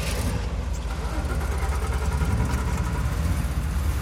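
A ship's deep, steady engine drone hums continuously and loudly, with a rumbling low-end vibration and a faint rattling texture throughout as the walls tremble.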